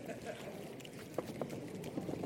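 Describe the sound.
A crowd of feet stomping on a floor makes a continuous rumbling patter that imitates thunder in a group rainstorm imitation, with a few sharper thumps rising above the steady roar.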